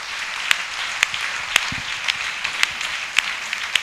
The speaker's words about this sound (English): Amen. Amen. Acclamons pour le Seigneur. Let's clap for the Lord.